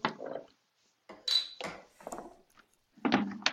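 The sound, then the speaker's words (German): A beer bottle is handled and opened to taste the beer, with several short bursts of glassy clinks and scraping and a brief bright metallic ring in the middle, with no talking. “Es riecht schon ganz anders, ne, wenn man die Ja. Flasche aufmacht.”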